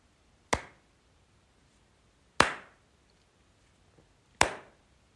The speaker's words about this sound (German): Ich klatsche noch dreimal.